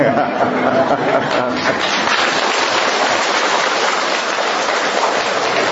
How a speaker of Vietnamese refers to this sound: mấy ngày hôm nay trời nó mưa, mà nghe nói là 60 năm vừa rồi chưa có một cái trận mưa nào mà nó lớn, nó to, nó dai như là mưa ngày hôm qua, thứ hai với thứ ba vừa rồi.